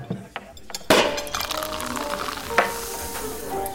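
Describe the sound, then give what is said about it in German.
Glasses clink together in a toast, two bright knocks about two seconds apart, each leaving a thin ringing tone that lingers over a busy, hissy background. “Prost. Prost. Zum Wohl. Auf uns.”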